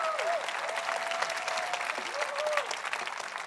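A church audience at Nouvelle Vie applauds at the pastor's call, a dense, steady wash of clapping lasting several seconds, with faint high whistles or cheers gliding over the top.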